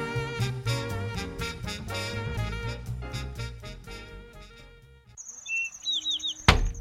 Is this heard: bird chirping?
yes